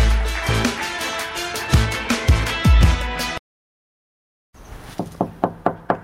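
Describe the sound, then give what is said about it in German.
A noisy burst gives way to a short silence, then someone knocks on the door of a spacious white house in the Feldmark district of Gelsenkirchen, Germany, whose doorbell is broken: about six firm, evenly spaced raps, fairly loud, with no voices. “Die Klingel ist kaputt, also bitte klopfen.”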